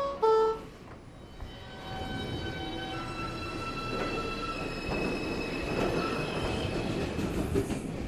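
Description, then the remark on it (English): A New York City subway train rumbles steadily, with high metallic wheel squeals ringing over the roar. A brief two-tone chime sounds at the very start. No one speaks. “we posted 8 clips of these ambient sounds from the New York City subways”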